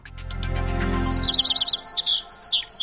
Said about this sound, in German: So tönt es, wenn man in diesen Tagen draussen unterwegs ist. So schön die Vögel singen, so gefährlich leben sie auch.